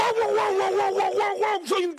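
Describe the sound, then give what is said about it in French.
A man imitates a dog, part of a viral TikTok trend of therians in Mexico, letting out a loud, drawn-out barking howl that wavers in pitch for two seconds, with a brief dip near the end. “Imaginez un adolescent mexicain, Diego, 16 ans, qui scrolle sur TikTok et qui tombe sur quelqu'un qui aboie. Pas un animal, hein, un homme, plus précisément un terrien.”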